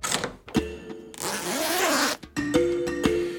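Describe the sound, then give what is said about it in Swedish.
A zipper is pulled several times: a long, steady rasping run in the middle, framed by shorter, choppier pulls, with no voices. “Men här nere på jorden har ju dragkedjan, eller blixtlåset, som sagt blivit helt oumbärlig.”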